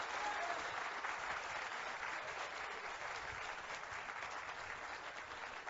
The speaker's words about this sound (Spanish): Este aplauso es para el ministro Eduardo Estrella, muchísimas gracias, quien encabeza el Ministerio de Obras Públicas y Comunicaciones.